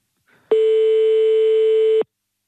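A single telephone ringing tone on the line as a call is placed to a number in Bischofsheim: one steady, loud electronic beep lasting about a second and a half, then silence. No one speaks.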